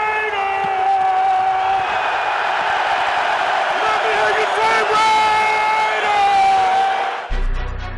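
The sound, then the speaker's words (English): A huge sellout stadium crowd at the Coliseum in Oakland roars and cheers continuously at the Raiders' home opener. The sound is loud and dense, with whoops and shouted voices rising out of the din for about seven seconds before it cuts off abruptly. “A sellout crowd fills the Coliseum at the Raiders' home opener.”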